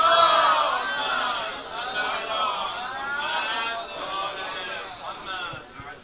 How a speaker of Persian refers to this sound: ایشالله خیلی ببین بلند یک صلوات دیگه خط بفرمایید.